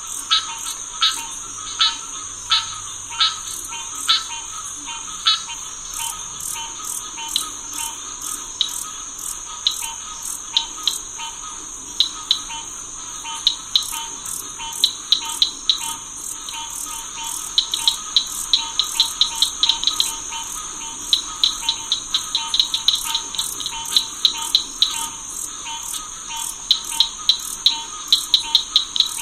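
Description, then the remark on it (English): Spring swamp ambience in Corkscrew Swamp, recorded by an artist: a steady high insect drone with rapid, rhythmic clicking calls and pulsing frog chorus, repeating in bursts throughout, with no voices. “Noise from truck traffic kept interfering with his recording, but for this CD, …, … pulled it out.”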